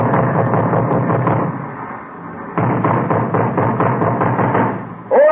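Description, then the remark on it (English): Police officers pound heavily and rapidly on a locked door, a dense run of thudding blows that pauses briefly and then resumes just as hard and loud, with no voices. “Police officers, open up. All right, come on, open up.”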